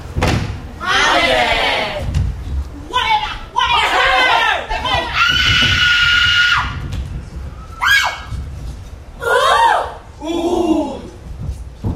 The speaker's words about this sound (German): Dazwischen stehen bei … immer wieder Passagen ohne Musik. Stampfende Füße geben den Rhythmus, Sprachfetzen, Gelächter, Geschrei.